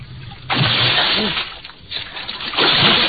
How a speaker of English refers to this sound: I ran to the rail and vaulted over into the icy river.